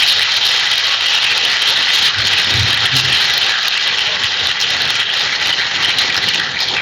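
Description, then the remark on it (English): Students at River Valley High School applaud steadily at a school event, a dense and fairly loud wash of clapping that holds at an even level for the full stretch, with no voices on top. “So give yourself a round of applause.”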